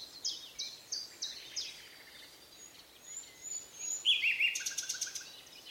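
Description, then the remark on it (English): A nightingale sings alone in a lively run of bright, high chirps and trills, repeated phrases rising and falling over a soft outdoor hiss, with no voices. “Everything in that bird's body, every muscle, every feather, every fiber, it took everything that bird had to get that chirp out.”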